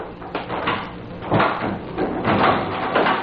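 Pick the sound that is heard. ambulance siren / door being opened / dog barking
door being opened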